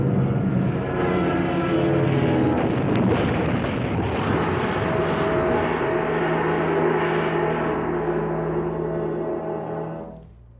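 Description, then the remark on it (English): A loud, steady roar of an airplane engine with a heavy rushing, wind-like noise as the plane lurches sharply and descends much too fast, droning intense for several seconds before quickly cutting away at the end. “Suddenly, the plane lurched sharply. There was a loud rushing sound in my ears, and I realized that we were coming down.”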